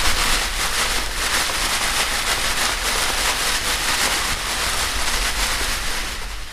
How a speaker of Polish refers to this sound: Wiosną wieje też silny wiatr.